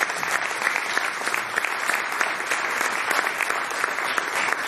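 Sustained audience applause, a dense wash of many hands clapping steadily at an even, fairly loud level throughout, with no voices standing out.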